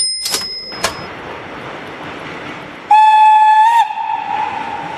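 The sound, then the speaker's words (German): A train, the Fliegender Hamburger on a test run to Hamburg on 19 December 1932, rumbles steadily along the rails with a broad noisy roar, broken by two sharp clanks early on and then a loud sustained whistle blast lasting about a second, with no one speaking. “Und jetzt sitzen wir im Zug nach Hamburg.”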